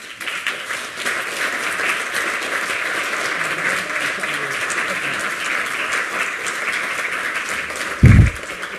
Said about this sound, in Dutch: En ik weet zeker een applaus van onze raad.